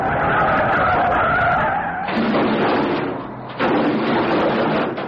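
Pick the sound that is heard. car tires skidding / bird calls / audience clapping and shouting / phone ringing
car tires skidding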